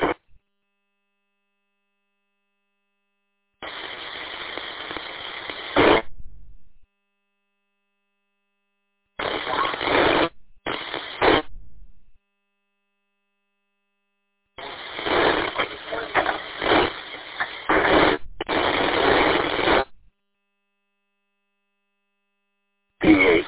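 Several bursts of tinny, hissing radio static cut in and out abruptly as a new radio transceiver, used for the first time, is tuned, with short silent gaps between the fairly loud crackling stretches.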